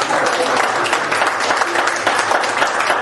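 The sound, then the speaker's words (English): An audience claps their hands to God in a steady, dense wash of applause that holds at an even loudness for the full three seconds, with no voices rising above it. “Clap your hands to Him today.”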